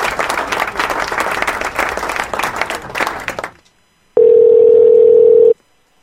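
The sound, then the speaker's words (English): An applause sound effect, played for a caller who has been on a phone call for over 40 minutes: a burst of loud, dense applause for about three and a half seconds, then cuts off; after a short silence a steady, single-pitched tone sounds for over a second. “You get some applause.”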